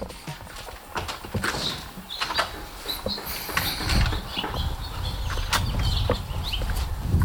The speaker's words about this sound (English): Maybe go outside and listen to the birds. Actually, that's a good idea. Hold on, I'm going to do that too.